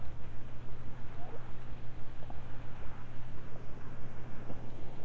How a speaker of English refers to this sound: Let's listen to the rain. Do you hear the rain outside on the leaves? That's a mango tree, like the monkey lives in.